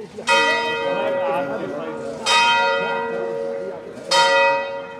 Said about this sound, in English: And just as the sun goes down, the church bells toll for Mass.